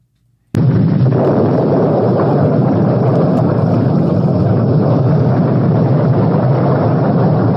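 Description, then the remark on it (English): A sudden, loud explosion on the deck of the aircraft carrier Forrestal, where a Skyhawk jet struck by a rocket exploded, bursts in after a brief silence, then gives way to a sustained, roaring rumble of fire and debris that continues steadily with no voices. “It exploded and sent debris into the plane piloted by then John McCain.”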